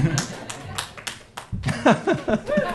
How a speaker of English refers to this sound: Yeah, and you're expected to clap way more than we've earned at this point.